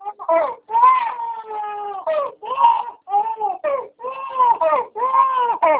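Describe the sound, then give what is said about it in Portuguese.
A baby girl cries in a string of loud, drawn-out wails, each broken by short gasping pauses, continuing steadily with no other voices. “Nossa, o neném tá chorando.”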